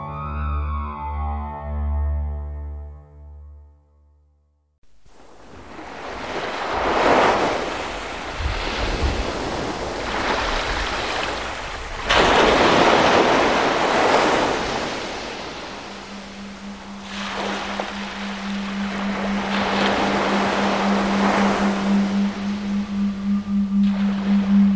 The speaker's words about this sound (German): Wo die Brandung des Südatlantiks gegen die Dünen der Namib-Wüste rollt